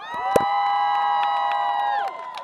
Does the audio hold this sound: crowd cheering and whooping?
yes